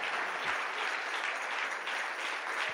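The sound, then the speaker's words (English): A crowd claps their hands to the Lord in a steady, dense wash of applause that fills the whole stretch, loud and continuous with no voices standing out. “If he done it before, clap your hands to the Lord.”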